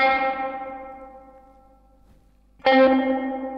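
An electric guitar chord rings out through a tremolo pedal, its wavering tone fading into a long, washy reverb tail from the pedal's built-in reverb, set to maximum with its fourth knob, before a second chord is struck sharply near the end. No one speaks.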